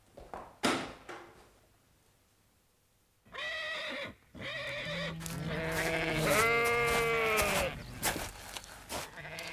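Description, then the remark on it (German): Sheep of Colonel Ross bleat loudly in a paddock, several wavering, drawn-out calls overlapping one after another after a brief quiet start with a few faint knocks. “Wie ich sehe, haben Sie auch einige Schafe auf der Koppel, Colonel Ross.”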